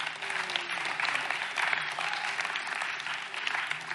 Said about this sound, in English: And one more round of applause for the people in the congregation that have given graciously of their time and money to make sure that this goes off.